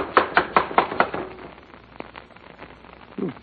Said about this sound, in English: Now, come on. Don't rap too hard. It'll knock the door off its hinges.